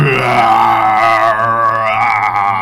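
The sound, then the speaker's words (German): A deafening beast's roar from the bushes, one long sustained bellow lasting a couple of seconds, loud and rough with a rich growling tone whose pitch wavers slightly, with no talking over it. “Ihr hört jetzt aus dem Hintergrund, aus dem Gebüsch, ein ohrenbetäubendes Brüllen.”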